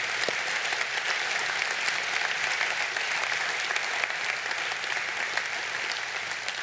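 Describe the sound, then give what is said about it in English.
A crowd claps steadily in sustained applause for Veterans Day, thanking those who served in the armed forces, a dense and even wash of many hands lasting several seconds without letting up. “so I just wanted to say a thank you on behalf of all of us, those of you that have served in the armed forces, and we just wanted to at least give you a round of applause saying thank you so much for serving our country.”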